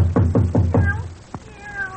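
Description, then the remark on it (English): A cat meows in a few drawn-out, wavering cries after a quick run of four low, rhythmic thumps. The sound is moderately loud, with no talking. “Wonder what's wrong with a cat.”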